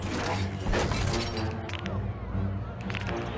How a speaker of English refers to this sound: She cracks her knuckles.